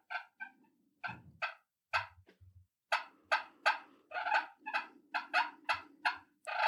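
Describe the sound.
A turkey call imitates a hen, sounding a quick series of sharp clucks over a low rolling purr that comes and goes. No one speaks.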